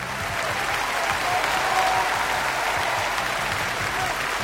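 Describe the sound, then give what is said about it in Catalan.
Steady, dense applause from a crowd, given for students and teachers of the Institut Escola 3 d'Abril school, a continuous wash of clapping at an even loudness for several seconds, with a faint low musical hum underneath. “el semàfor verd d'aquest weekend i aquest aplaudiment més que merescut.”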